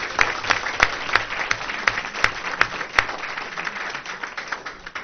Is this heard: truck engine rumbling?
no